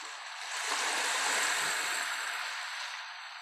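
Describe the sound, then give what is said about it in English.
A broad, steady wash of ocean-wave noise, one of the ambient sounds on a meditation app's timer, swells in and slowly recedes like a single wave rolling onto shore, with hissy high-frequency spray and no voices. “Yeah, there's a timer where you can listen to ambient sound, piano, different white noise, even just like ocean waves.”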